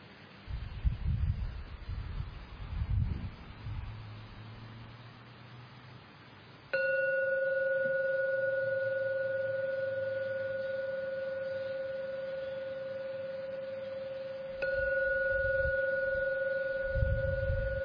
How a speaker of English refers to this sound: I am now going to ring the gong 3 times. Please respect the gong and listen to every sound before you open your eyes. The 3 ringings of the gong.